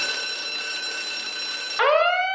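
A smartphone alarm app, which requires taking a photo of a room to stop the alarm, rings with a steady, shrill electronic tone, then abruptly switches to a louder, rising siren-like wail. It is clear, with no voices.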